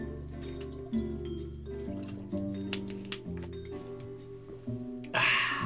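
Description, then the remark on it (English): Water is poured into a cup in a short, splashy burst near the end, after a stretch of soft, steady background music with faint clicks and taps. “Yeah, let me get some water.”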